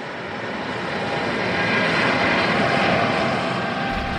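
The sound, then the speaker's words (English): The engines of a large white cargo plane arriving on the tarmac roar steadily and loudly, a broad sustained drone with a faint tonal whine as it rolls in, with hundreds of people waiting to board for a flight to the capital, Juba. No voices present. “The large white cargo plane that's meant to fly them to the capital, Juba, has arrived, and so hundreds of people are sat on the tarmac, patiently waiting to get onto this plane.”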